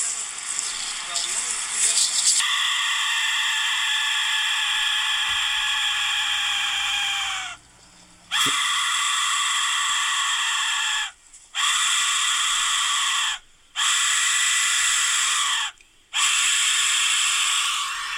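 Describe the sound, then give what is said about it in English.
An Aztec death whistle, a small skull-shaped whistle with a clay reed, blown by a man, shrieks in five long, piercing, scream-like blasts separated by brief pauses, harsh and loud with a raspy, buzzing edge and no talking over it. “This is the Aztec Death Whistle, and I'm going to apologize in advance for your ears.”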